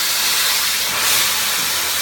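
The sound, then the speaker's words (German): Thin high-pressure water jets, at up to 3000 bar, cut through a wind turbine rotor blade of plastic and wood, making a loud, steady hissing roar, bright and harsh, continuing unbroken for about two seconds with no voices. “Die Lösung sind Wasserstrahlen mit einem Druck von bis zu 3000 Bar.”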